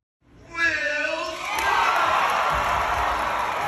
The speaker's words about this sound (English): Wild cheering.